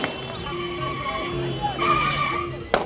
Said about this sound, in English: a full day after the United Nations Security Council voted to authorize all necessary measures to protect Libyan civilians, the streets of the eastern city of Tobruk were alive with celebration. There was gunfire, horn honking, and screeching tires.